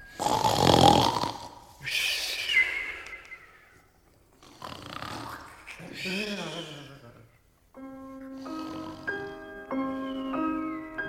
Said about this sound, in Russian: Великан пришел к себе в спальню, упал на кровать, и вскоре обе головы захрапели.